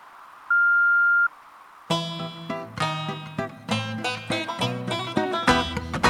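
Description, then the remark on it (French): A single steady electronic voicemail beep after an answering-machine greeting holds one pitch for under a second against near silence, then a burst of lively music starts right after. “Bonjour, vous êtes bien chez Dieu le Père, et là je suis absent pour l'instant, mais n'hésitez pas à me laisser un message après la Bible sonore.”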